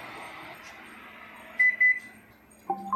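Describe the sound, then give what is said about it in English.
An oven's preheat signal, on reaching 400 degrees Fahrenheit, sounds as a quick run of three short, high electronic beeps, followed by a lower, louder tonal chime near the end, over a soft steady hum. “Your oven is preheated. Okay, it's preheated.”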